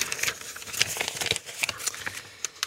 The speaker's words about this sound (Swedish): Och det handlar ju om frågorna i den beryktade pärmen. Vilket nummer vill du att jag bläddrar fram åt dig?